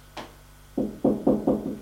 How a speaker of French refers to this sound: Il va frapper à la porte.